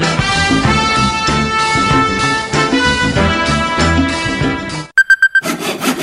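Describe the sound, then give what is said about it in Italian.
Music plays, then gives way to a quick run of rhythmic rasping strokes, a hand saw working back and forth through firewood, loud for about a second. “Ma che fai? Seghi a mano la linea da ardere,”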